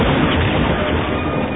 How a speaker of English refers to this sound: A stormtrooper in the cargo pod tossed something at the window. It exploded, spraying transparent steel fragments into the room.